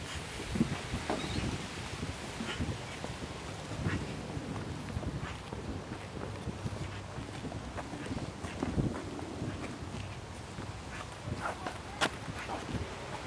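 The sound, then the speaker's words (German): Wind sweeps steadily through poplar leaves at an overgrown airfield, a continuous hissing rustle with gusty swells, heard outdoors with a few faint clicks and bird-like sounds in the background. “Ist das eine Pappel hier? Die Blätter hören sich immer besonders krass an.”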